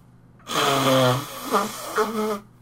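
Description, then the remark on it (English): Someone blows their nose into a tissue: a loud, honking, breathy blast lasting about two seconds, ending in two shorter sputtering pushes. No talking over it. “I'm going to have to blow my nose.”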